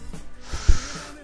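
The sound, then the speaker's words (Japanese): A short, breathy cough bursts out into the microphone, a rough exhale with one sharper hack in the middle, then trails off into airy noise. “振り切んないな。普通咳込むと振り切るんだけどな。”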